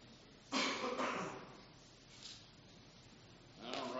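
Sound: coughing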